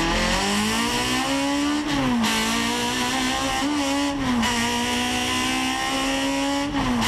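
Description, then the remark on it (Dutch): A BMW 2002 Turbo car engine revs hard and steadily, its pitch climbing in repeated rising sweeps with brief dips between gear changes, loud and continuous with no talking. “En dan heb ik misschien nu wel een leuke vergelijking. Namelijk de BMW 2002 Turbo.”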